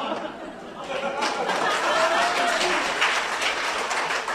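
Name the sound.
audience applause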